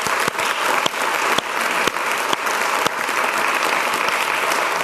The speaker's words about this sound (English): So first of all, give them all a round of applause for being here.